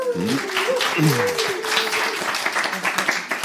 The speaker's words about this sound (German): Guck mal, es ist euer Applaus, dass ihr da seid. Das ist das schön.